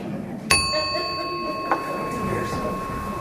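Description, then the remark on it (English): A bell dings sharply as a signal for participants to switch partners, then rings out with a long, clear tone; a second, softer strike follows about a second later while the ringing fades over faint murmur. “You switch every time you hear the bell.”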